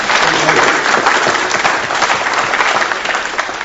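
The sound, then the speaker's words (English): A church audience applauds steadily in celebration, many hands clapping in a dense, even wash of sound that stays loud throughout without any talking over it. “Yeah, let's clap and celebrate.”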